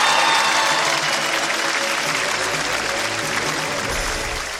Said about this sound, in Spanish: Un fuerte aplauso. Un aplauso para ti.